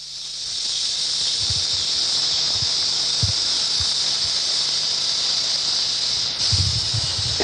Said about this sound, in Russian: Ромбический гремучник, самая опасная змея в США, по Флориде же.